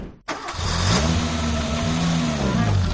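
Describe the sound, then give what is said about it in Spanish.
A car engine catches after a brief silence, then revs steadily with a rising and falling harmonic drone, loud and continuous as the vehicle pulls away. It is Harlan Sanders's car as he sets out to drive across the United States. “Cogió su coche y decidió recorrer Estados Unidos para vender su pollo frito a otros restaurantes.”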